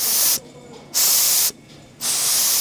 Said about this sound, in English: When you are finished making your prototypes or knitting your samples, you would bring them over to the large steam bed and you would take the iron and then steam the sample to relax it and see what the finished garment would look like.